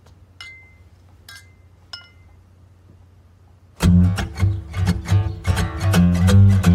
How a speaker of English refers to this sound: Can I just propose a toast? Just raise a glass if you're racist. And that's the thing. Cheers.